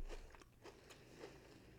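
Crunching bites into a crisp chocolate bar filled with pistachio cream mixed with kataifi, a type of phyllo dough: several sharp crackly snaps spread over a couple of seconds with chewing in between, no talking.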